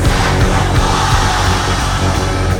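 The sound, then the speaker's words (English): A large crowd yells the word "sacrifice" together as loud as they can on a count of three, one loud, sustained roar, voices blended into a dense wall of sound that holds steady for a few seconds. “On the count of three, we're all gonna yell sacrifice as loud as we can.”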